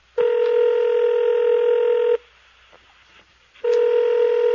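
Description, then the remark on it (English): A telephone rings on the line: a loud, steady electronic tone lasting about two seconds, a short pause, then the ring starts again. No voices. “Maybe that press conference was followed by a phone conversation.”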